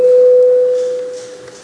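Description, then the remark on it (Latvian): A steady electronic parliament bell tone, rung before the deputies vote, sounds alone, one clear mid-pitched note held for over a second before slowly fading, with faint background hiss. “Deputāti, vēlas balsot, lūdzu zvanu.”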